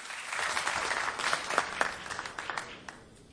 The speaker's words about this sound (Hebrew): תנו לו מחיאות כפיים, מותר זה רב.